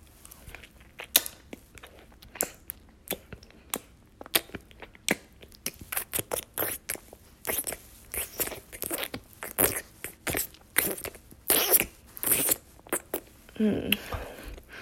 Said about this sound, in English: Does the sound of me sucking you make you instantly hard?